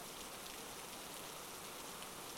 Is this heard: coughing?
no